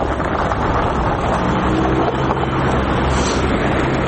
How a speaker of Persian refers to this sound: با عبور موترها از جاده ها صدای شکستن یخ ها گوش های آبیران را نوازش میکند، اما این جاده های یخی برای رانندگان مشکل زا شده است.